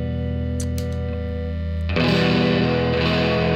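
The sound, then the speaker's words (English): A Fender Strat-style electric guitar, dials set to the middle, plays sustained notes with a light, gritty distortion, the tone thickening and growing brighter and louder about halfway through as a fuller chord rings out. “That's just a little kiss of distortion.”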